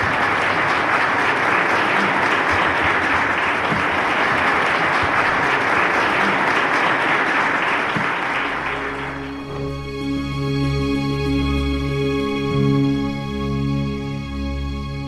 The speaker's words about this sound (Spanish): y te llevas este calurosísimo aplauso de toda la gente que ha venido aquí virtualmente a acompañarnos.